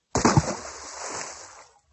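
A single heavy splash as a man falls into a well, a loud impact followed by about a second and a half of churning, sloshing water fading away.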